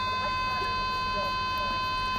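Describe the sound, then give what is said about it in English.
The continuous alarm of another patient's treatment machine, set off by being on minimum too long. It sounds as a steady, unbroken electronic tone with several stacked pitches, droning without pause through the whole moment, with faint background noise and murmuring underneath. “Now, that is the continuous alarm I was talking about when, if you're on minimum too long, but that isn't my machine, that's the man opposite me.”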